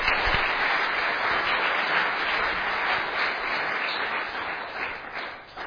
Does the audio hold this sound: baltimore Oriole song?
no